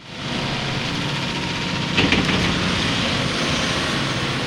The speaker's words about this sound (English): A crowd of about 100 people gathered near Fallon to watch an excavator dig up the final portion of a new canal that connects Carson Lake to the Stillwater Point Reservoir east of town.